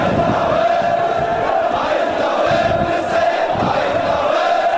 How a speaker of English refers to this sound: White burial shrouds chanted death to Israel and death to America today in the Sadr City neighborhood of Baghdad.